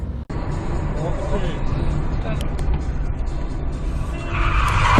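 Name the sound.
car skidding and crashing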